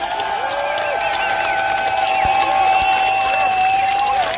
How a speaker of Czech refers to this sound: Takže děkujeme, zatleskejte si ještě jednou, protože jste skvělí.